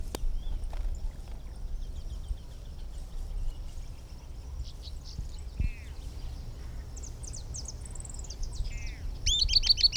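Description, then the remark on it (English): An unbanded Camptostoma bird, one of a pair present at the nest, sings thin, high-pitched notes and short descending trills, repeated at intervals over a low, steady background rumble, with other faint chirps scattered throughout. “Now here are some recordings of the unbanded bird, which is still present and singing.”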